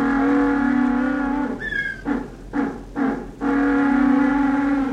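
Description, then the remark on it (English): African penguins at Boulder's Beach near Cape Town bray loudly in a donkey-like call: a long, nasal, harmonic drone, then three short gasping pulses, followed by another sustained honk. No one speaks. “But even today, at Boulder's Beach near Cape Town, you can walk the beach among these charming birds and hearken to their obstreperous voices.”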